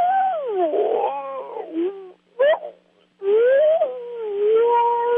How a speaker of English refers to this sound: The sound of the courtship between two porcupines, kind of a humming song on the part of male and female that would go almost subsonic and then almost up beyond the human range of hearing and then back down again.